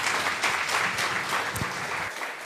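An audience applauds together, a dense, steady patter of many hands clapping that fills the room for a couple of seconds before thinning out at the end.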